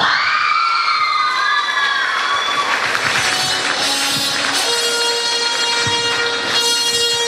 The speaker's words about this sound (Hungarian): Gratulálunk neked is, nagyon ügyes voltál! Nagy tapsot kérünk nekik még egyszer! Köszönjük szépen, lányok!